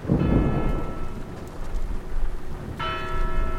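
Steady rain hisses throughout a Saturday afternoon in Jackson Square, New Orleans, with a deep rumble early on and ringing bell tones that fade, then strike again near the end. No one speaks.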